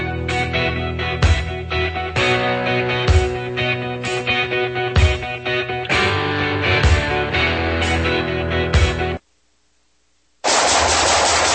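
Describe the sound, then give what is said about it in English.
Loud automatic gunfire rattles in rapid, sustained bursts with sharp repeated cracks for about nine seconds. A short silence follows, then a harsh, steady burst of noise. “Nice shooting.”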